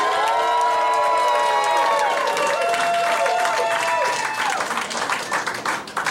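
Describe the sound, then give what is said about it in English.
An audience applauds and cheers loudly in a clap-off vote for a contestant. Dense clapping and overlapping shouted voices and whoops hold steady, then gradually thin out toward the end. “Yeah, let's do the clap offs.”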